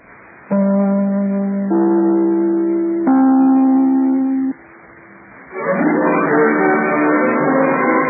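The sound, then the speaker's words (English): Three sustained NBC (National Broadcasting Company) broadcast chime notes from The Big Show radio program ring out one after another, each a bit higher than the last and lasting over a second. A brief lull follows, then a loud, dense wash of sound swells in. “We'll be back in a moment as soon as I ring my chime.”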